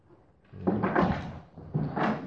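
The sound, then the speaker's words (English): A door is slammed shut twice in quick succession, each a loud rattling bang with a short ringing tail, with no one speaking. “Someone's serving that door.”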